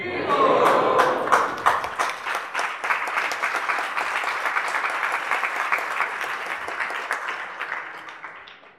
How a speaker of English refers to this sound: That got bigger applause than your question.